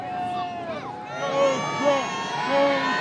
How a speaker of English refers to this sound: And as soon as it started, the float did get booed.